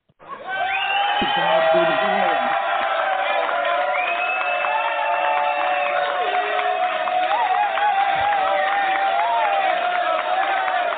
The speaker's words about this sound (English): Everyone, let's give her a big round of applause.